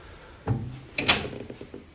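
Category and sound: household object, door being opened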